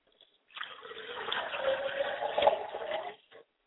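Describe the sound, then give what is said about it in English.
Liquid is poured as a libation to Obatala in a steady splashing stream for about three seconds, with a soft gurgling tone running through it, then stops. No one speaks. “I like to pour libation to my father, Obatala, and I say Ashe.”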